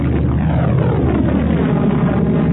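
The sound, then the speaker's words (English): A spaceship engine roars loudly and steadily as the ship shoots out of an exploding cloud of fiery gas, a dense, rumbling blast that fills the whole moment with no voices over it. “They shot out of the explosive cloud like a proton torpedo leaving an X-wing.”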